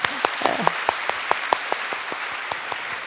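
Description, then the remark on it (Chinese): An audience applauds steadily, a dense wash of clapping with a few louder, evenly spaced claps standing out in a quick rhythm, moderately loud throughout, with a faint voice briefly near the start. “所以呢，我真係好想呢，都多谢即係每一个呢同我爸爸有关心慰问过嘅，有让过位嘅弟兄姊妹，我都俾啲掌声你哋啊。”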